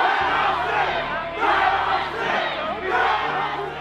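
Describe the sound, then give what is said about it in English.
A dense crowd at the Capitol building shouts and yells to be let in, a loud, continuous roar of many voices that swells in waves, agitated, with no single voice standing out. “A burly dude in a Hawaiian shirt at the front of the crowd, screaming to be let in.”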